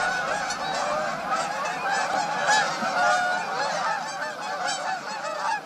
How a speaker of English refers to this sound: October's rain and cooler weather tell us that summer is truly over. The caroling of robins gives way to the clamor of migratory Canada geese.